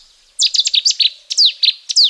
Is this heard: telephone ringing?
no